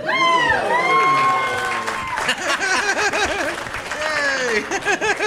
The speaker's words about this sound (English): I love applause for something you don't even know what it is. Like, he said it like it's important, so let's applaud.